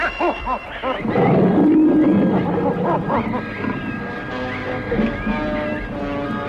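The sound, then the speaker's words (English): A huge red-maned lion with large black markings on his flank, stalking people in the jungle, growls in short, throaty bursts, then erupts into a loud, sustained roar, followed by rumbling snarls that trail off with a dense layer of other sound beneath. “They are being stalked by a huge red-maned lion with large black markings on his flank.”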